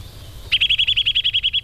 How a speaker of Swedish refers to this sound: För den har nötveckan är lite som en polisvissla.